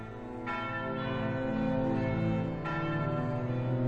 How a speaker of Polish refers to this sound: Po chwili odezwały się dzwony kościołów, zwiastując, że kościół stoi, że nie zwyciężył go ogień wrażych bomb.